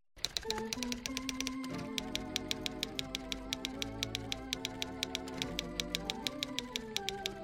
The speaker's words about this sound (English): Sort of cool hearing the typewriter in the background. Isn't it sort of cool, the typewriter?